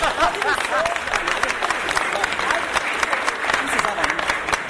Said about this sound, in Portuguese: Pode aplaudir, gente.